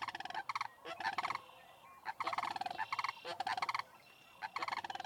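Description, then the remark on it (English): A chorus of birds calling outdoors in the San Luis Valley: rolling, rattling bugle-like calls of sandhill cranes in repeated bursts, with higher trills of red-winged blackbirds and a variety of other birds mixed in, steady, no talking. “All right, and that sound that you just heard of birds in the San Luis Valley, sandhill cranes, red-winged blackbirds, a variety of birds.”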